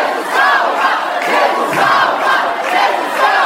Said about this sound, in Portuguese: A sessão desta quinta-feira na Câmara Municipal de Maringá teve torcida organizada. De um lado, cristãos em defesa da família.